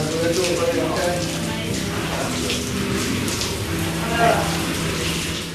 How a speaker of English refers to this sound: Okay, so I've had my cold shower.